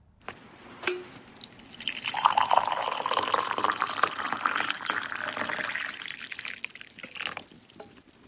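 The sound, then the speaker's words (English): Tea is poured steadily from an old red Polish teapot into a cup in Ireland, a continuous splashing stream lasting several seconds, with a lid clink at the start and a few drips as it tapers off. “sent in that recording to share the sound of tea being poured from his old red Polish teapot.”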